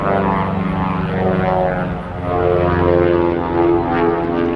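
A loud, steady propeller-plane engine drones throughout, its rich harmonic hum swelling and easing slightly in pitch. No voices are heard.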